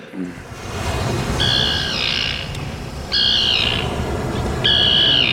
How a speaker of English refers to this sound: Is that a seagull? No, it's a tern, like you asked for.